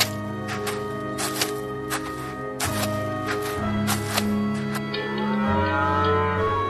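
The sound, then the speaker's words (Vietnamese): Several cows moo in long, overlapping low calls, their drawn-out lowing filling a cowshed with a steady chorus and no voices, as an old man goes out to lock the cowshed door. “Đoạn ông bỏ ra ngoài để đi khóa cửa chuồng bò.”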